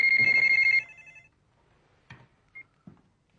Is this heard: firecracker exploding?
no